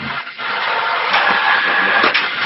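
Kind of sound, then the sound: machine, printer printing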